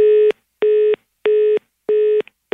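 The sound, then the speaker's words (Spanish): A telephone tone after a hang-up beeps in four steady, evenly spaced pulses, each about a third of a second long, loud with nothing else around it. “¿Y por qué se colgó el teléfono?”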